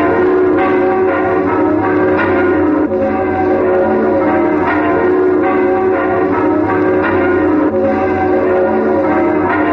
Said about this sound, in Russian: Едва мы дошли к ратуше, мы услышали, как со всех сторон стали подниматься звуки Марсельезы. Марсельеза все росла и, казалось, вселилась над городом. И забили колокола.